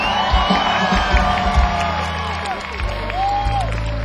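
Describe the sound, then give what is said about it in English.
A loud crowd at a show in Dublin, Ireland, cheers and applauds the show's crew, with a dense steady roar of clapping and scattered high whoops and shouts rising and falling throughout. “So let's hear it for the guys and girls in the crew!”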